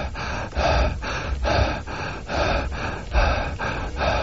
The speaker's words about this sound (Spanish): Esto por la boca, por la nariz. Imagínate que estás haciendo un círculo entre la inspiración y la expiración. Eso se llama la respiración consciente circular.